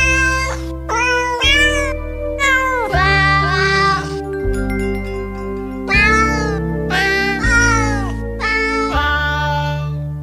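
Cat meows pitched and strung together into a Christmas melody over a steady musical backing, each meow landing as a sung note in a loud, continuous tune with no talking.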